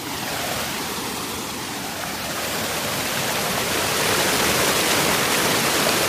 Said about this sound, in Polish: Prawdziwa kipiel! Tak, dokładnie. Takich miejsc no niewiele możemy na nizinach spotkać, jak właśnie tutaj, w tym miejscu. I ta mgiełka, która się unosi tutaj nad tą kipiącą wodą w słonecznej pogodzie.